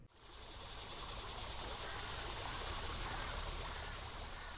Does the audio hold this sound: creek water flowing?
yes